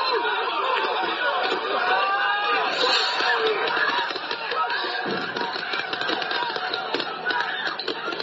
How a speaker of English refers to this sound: You can hear law enforcement firing pepper spray as crowds taunted officers.